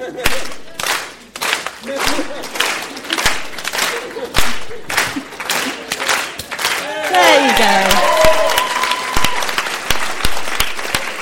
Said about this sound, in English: I cannot tap dance, but I like to pretend I can. Let me show you. I'd like a clap, please.